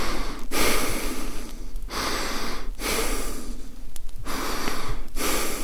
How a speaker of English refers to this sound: What was that? It was like a dog sound. I suddenly realized the shovel man was sniffing the air underneath me. If he could smell like a dog, he'd be able to smell my fear and tell I was up there.